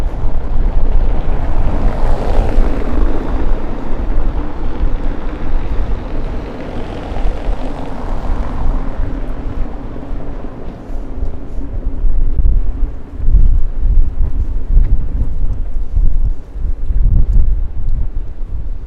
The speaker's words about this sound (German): Hörst du den Wind?